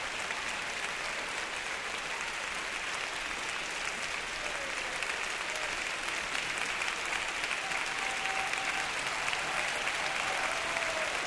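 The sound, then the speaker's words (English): Sustained, dense applause from a large, standing concert audience at Orchestra Hall in Chicago, applauding conductor Raphael Kubelik, steady and loud throughout, with scattered cheers and a few whistle-like calls rising above the clapping. “As you can hear, cheers as well as applause from this Orchestra Hall audience, which is now standing in tribute to Mr.”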